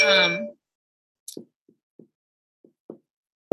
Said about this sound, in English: Did not mean to get a notification there.